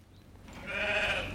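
A sheep in a lambing shed gives one drawn-out bleat, clear, rising out of a low background hum with no one speaking.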